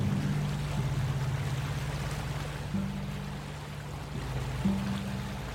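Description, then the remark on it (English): A steady, low engine drone throbs continuously with a broad wash of water noise, as a boat powers up and motors away from the quayside out to sea among islands off the west coast of Norway, at moderate volume, its pitch shifting slightly as it pulls off. “Okay, so engines powered up. We're pulling away from the quayside and out to sea around these myriad islands on the west coast of Norway.”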